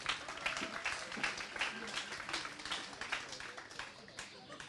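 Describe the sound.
An audience applauds steadily, many hands clapping in a dense, crackling wash that holds at an even level throughout, with a few cheers or voices mixed in.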